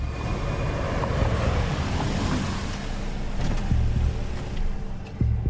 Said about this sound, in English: A gray saloon car pulls up at the hospital. Marcus drives the car carefully into a parking space.